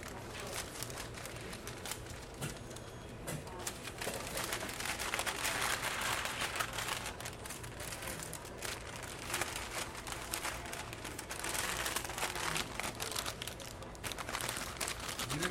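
A large paper bag rustles and crinkles steadily for the whole stretch, a dense crackle with sharp little snaps as it is handled and folded, with no voices.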